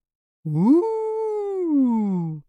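A single long, eerie howl rises quickly, holds a steady wavering pitch, then slowly sinks and cuts off, loud with no other sounds around it.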